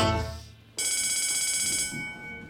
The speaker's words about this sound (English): To make sure you brush every part of your mouth, pay special attention to the bells that tell you when to switch your brushing.